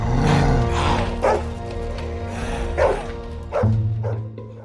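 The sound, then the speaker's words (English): Several dogs in a Hungarian film featuring 250 dogs bark and yip in overlapping bursts, with a few sharper barks standing out over a dense, continuous background of canine noise, fairly loud. “The sheer number of dogs in the film is just staggering, 250 of them.”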